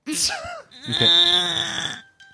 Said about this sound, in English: Okay, so that's just the Find My iPhone alert that I asked for 40 minutes ago. Thank you so much to the Apple Corporation.